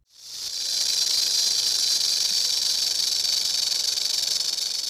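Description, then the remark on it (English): A rattlesnake's rattle buzzes in a steady, high-pitched hiss that swells up quickly and holds loud and unbroken for several seconds, with no voices. “This week, the sound of a rattlesnake opens our introduction to a Virginia State Natural Resources Agency that turned 100 in June 2016.”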